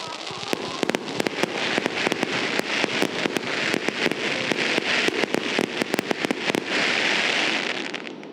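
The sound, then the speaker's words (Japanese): Fireworks at a social-distancing fireworks festival staged by the Sendai performance group Shiroe at Izumigatake ski resort on 4 October burst in a rapid, irregular barrage of sharp pops and bangs over a continuous crackling roar, loud for the whole stretch. “10月4日、仙台出身のパフォーマンス集団シロエーが手掛けたソーシャルディスタンス花火大会が泉ヶ岳スキー場で行われました。”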